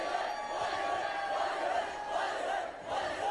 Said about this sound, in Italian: Il pubblico però rivolge il proprio tifo, le proprie attenzione ai Bollywood Boys, come potete sentire